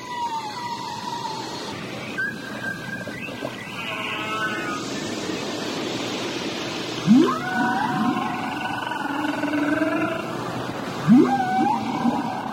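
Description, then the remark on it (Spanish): Whale calls echo underwater off the coast of Uruguay during whale season: long, sliding moans and rising whoops with harmonic overtones, several overlapping in sequence over a steady watery hiss, moderately loud and with no voices. “Creo que ese sonido es de ballenas.”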